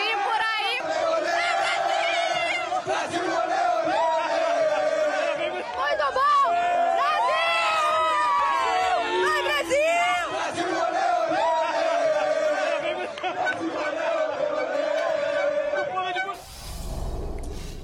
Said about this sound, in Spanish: Celebraciones brasileñas tras la derrota del equipo de Suiza. Gana el equipo de Brasil 1-0.